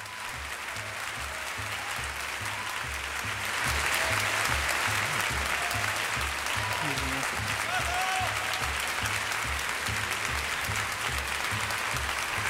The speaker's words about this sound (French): C'est pas pour moi les applaudissements, c'est pour Maillan. On a une idée de l'énergie qu'elle donne quand même dans cet extrait.